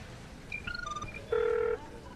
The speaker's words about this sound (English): Marianne dials Driscoll on Edgar's video phone.